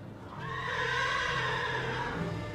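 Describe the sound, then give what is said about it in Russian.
A hero's faithful warhorse gives one long, drawn-out whinny that holds steady for a couple of seconds, loud, with no voices around it. “Уж-то верный богатырский конь порычает теперь хозяина.”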